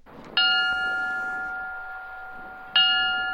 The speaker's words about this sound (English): At a remembrance ceremony, the Moore Fire Department Honor Guard rang a bell 25 times, the number of people killed last year.